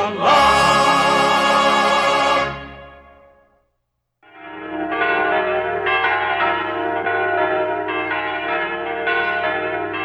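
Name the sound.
church bells ringing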